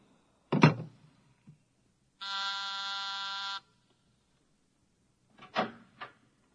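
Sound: office intercom buzzer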